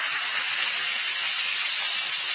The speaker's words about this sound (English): Just drop one or two tablets in a glass of water like this. Listen to it fizz.